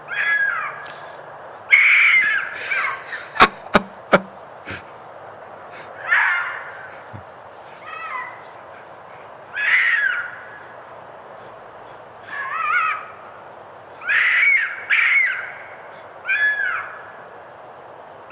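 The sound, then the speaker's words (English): A dog (male) fox gives a series of harsh, high barking calls on a frosty winter night, spaced a second or two apart, each a short hoarse yap, with a few sharp clicks early on and no talking. “This is a dog fox to start with.”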